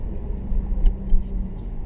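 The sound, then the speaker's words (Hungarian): A sports car engine, switched into sport mode, growls with a deep, steady rumble, its low throb swelling slightly a couple of times without any talking over it. “Ez a jó kis öblös, morgó hang, szerintem zseniális, imádom.”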